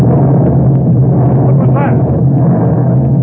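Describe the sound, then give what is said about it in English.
A loud, deep explosion down near the water, a tube of nitroglycerin placed in gears going off; it rumbles on steadily, a heavy roaring boom that fills the whole few seconds without fading, powerful with a low churning texture. “Like an explosion down near the water.”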